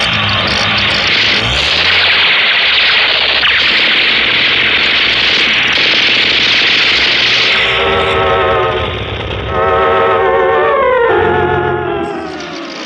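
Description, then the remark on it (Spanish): Amid gunfire, loud, roaring motorcycle engines rev and whine in a dense, continuous din, their pitch rising and falling in waves, with the noise easing briefly before surging again. “Balas por doquier, bóridos desatados.”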